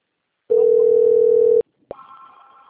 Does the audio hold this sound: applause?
no